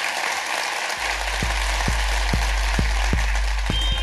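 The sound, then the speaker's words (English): A large audience claps and applauds loudly and continuously for a band, a dense wash of hand claps, while a steady thumping low beat starts underneath about a second in. “Ladies and gentlemen, give a massive round of applause to ….”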